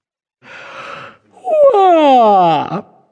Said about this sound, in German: gähnte herzhaft und reckte und streckte sich ausgiebig.